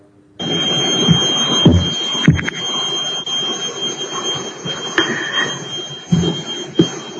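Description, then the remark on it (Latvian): The Latvian parliament's voting bell rings continuously for several seconds before a vote on the fifth proposal of the responsible committee. It is a steady high-pitched electric clang that never pauses, over a low murmur of voices and shuffling. “Lūdzu zvanu, balsosim par piekto atbildīgās komisijas iesniegto priekšlikumu.”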